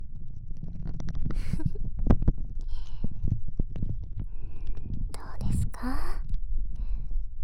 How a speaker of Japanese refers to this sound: 指の感触に加えて、このクリームが泡立つ音もゾクゾクしませんか？うん、もしこの音がお好みなのであれば、もっともっと激しくして差し上げます。ほら、このように。